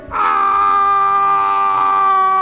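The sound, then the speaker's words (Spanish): A man's voice lets out one long, loud, sustained shout, held steady for over two seconds, a playful imitation of a hunter yelling as part of a joke, with no other talking. “Luego un cazador gritando...”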